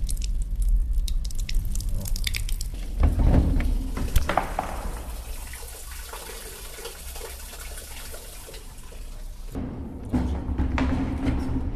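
Water drawn from a well runs steadily from a small tap at a church, splashing and trickling into a container, with occasional clinks and drips; the flow is continuous, briefly shifting in tone near the end. No one speaks.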